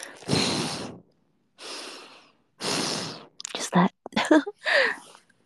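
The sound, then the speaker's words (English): Loud breathing right against a phone microphone held in front of the mouth: three long, airy breaths with pauses between, then a quicker run of short, snorting sniffs and gasps. No talking. “It's either short or 8 hours long, with most of it is breathing.”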